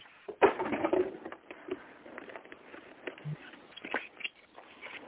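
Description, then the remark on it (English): A deck of cards being shuffled: a quick burst of dense papery flicking, then scattered softer taps and rustles as the cards are handled. Moderately quiet, with no talking. “I am shuffling.”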